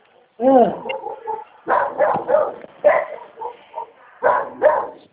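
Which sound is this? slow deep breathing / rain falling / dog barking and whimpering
dog barking and whimpering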